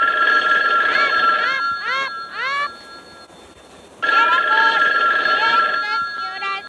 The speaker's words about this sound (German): Um 6 Uhr am Abend klingelte dann in der Zentrale das Telefon.